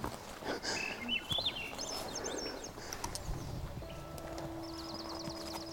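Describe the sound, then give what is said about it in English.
Birds sing outdoors in the woods on the outskirts of a subdivision in Yukon, with clear warbling, up-and-down phrases followed by a rapid, even trill near the end, set against a steady background hum and a few soft low thumps. “Having the birds sing.”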